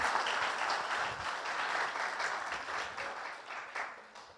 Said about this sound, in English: You can clap to that.